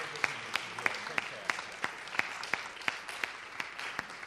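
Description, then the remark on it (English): Audience applause at a debate, a huge round of applause for a speaker, with a steady, even rhythm: about a dozen sharp, bright claps stand out above a continuous wash of crowd clapping, at moderate volume, with no voices on top. “So let's just give Linda a huge round of applause.”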